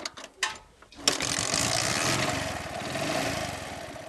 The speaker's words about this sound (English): This motorcycle is called Bajaj Boxer. It uses, consumes low fuel. Motorcycles are basically used as taxis around here.